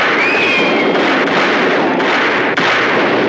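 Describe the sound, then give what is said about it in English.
A loud, dense barrage of rapid gunfire, 32 rounds fired, many shots blurring into a continuous crackling roar for several seconds with only brief dips, and no voices. “In desperation, they fired 32 rounds to kill Johnny Mathis.”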